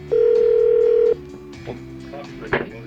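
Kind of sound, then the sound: signal or alarm, telephone ringback tone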